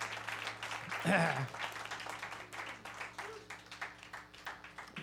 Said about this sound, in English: Everybody, so very much for your applause.